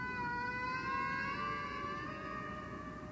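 A recording of humpback whale song played aboard a ship: one long, sustained mid-pitched moan with layered overtones, its pitch drifting slowly over a steady low rumbling wash, with no talking.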